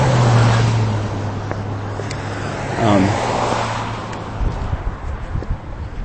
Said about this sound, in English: Sutherland Avenue, which we just arrived at, and we are crossing. Got a car here. Will it let me go? Yes. Okay, good.